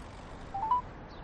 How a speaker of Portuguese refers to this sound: Espera aí que eu ligo e passo o telefone pra você falar. O número que eu liguei da última vez ainda tá aqui no meu histórico.